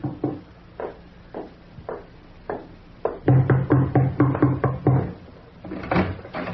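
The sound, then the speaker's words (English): Knocking on a door, a few spaced raps at first, then a loud, rapid burst of insistent pounding, followed by a few more heavy knocks. No one speaks. “Who could that be at the door?”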